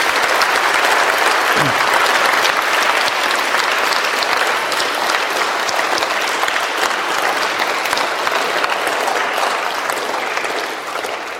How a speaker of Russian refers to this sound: И давайте сейчас, вот послушайте внимательно, поблагодарим Бога аплодисментами за то, что в нашей церкви есть такие служители. Давайте.